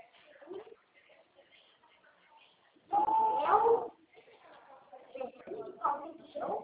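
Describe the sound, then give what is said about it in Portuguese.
Someone imitates a kitten's meow: one loud, drawn-out mewing cry in the middle, with quieter murmured talking before it and afterward. “Você parece um gatinho.”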